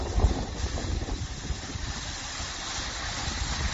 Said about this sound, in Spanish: Es el Guadiloba desembalsando agua a primera hora de la mañana por las precipitaciones caídas en las últimas horas y las que se esperan también en los próximos días.